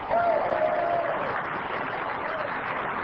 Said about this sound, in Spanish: ¿Cuántos dirán amén? Dale ese aplauso al que vive.